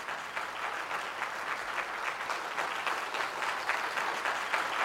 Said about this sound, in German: Und dann stehen die Menschen wieder auf und sie klatschen für sie.